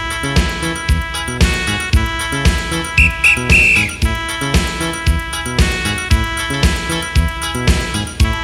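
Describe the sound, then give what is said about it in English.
A whistle sounds a quick ti-ti-ta signal pattern of two short blasts and a slightly longer third, signalling people to stand still or start moving again, cutting through steady, beat-driven music that plays throughout. “Next time you hear the whistle, it's time to move again, and then you're on your own.”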